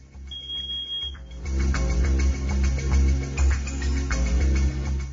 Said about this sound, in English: Someone must be testing my smoke alarm.